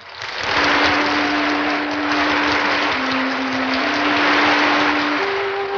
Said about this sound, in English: Wanda enters to applause.